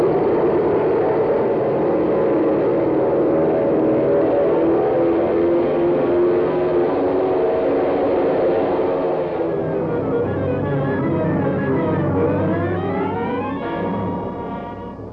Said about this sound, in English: Takeoff in the face of the gale. Will the huge transport be able to lift from the soggy field? Will the meager supply of gas be sufficient to carry the ship through the storm to the secret runway in the Everglades?